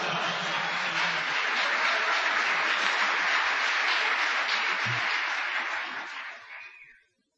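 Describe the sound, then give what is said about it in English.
An audience applauds the organist after an organ piece, a dense wash of many hands clapping at an even loudness for about six seconds before quickly fading out. No one speaks over it. “I think if nothing else, we need to give his feet a round of applause.”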